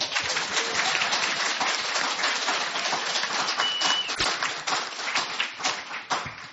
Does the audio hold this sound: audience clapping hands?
yes